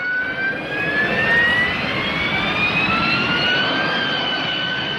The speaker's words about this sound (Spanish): El mecanismo solo se conoce en aplicaciones de flujo supersónico, como el despegue y el aterrizaje verticales con motores a reacción, como la turbina de un Harrier.